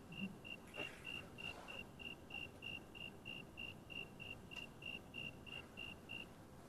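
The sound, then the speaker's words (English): A cricket chirps in a fast, steady series of short, high-pitched pulses, repeating evenly for several seconds over a soft, continuous background hiss. No one speaks. “Okay, so I'll start with some interesting facts about the crickets.”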